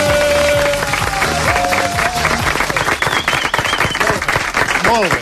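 Two people clap loudly and rapidly without pause, their fast claps blending into a dense, applause-like burst, with some tonal whistling sweeps mixed in.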